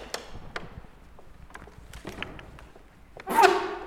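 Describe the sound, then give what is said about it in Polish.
The heavy door of the 14th-century red-brick castle in Łęczyca is handled: several wooden knocks and metallic clicks from a brass handle, then a louder creaking, scraping swing as the door opens near the end. “Uchylamy ciężkie drzwi. Mosiężna klamka.”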